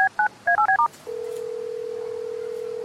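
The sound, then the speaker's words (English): A quick run of about seven telephone keypad tones as someone dials to call a man, crisp two-note beeps in rapid succession, followed by a steady, unbroken tone that holds to the end. No voices. “Have you tried calling him? Yep.”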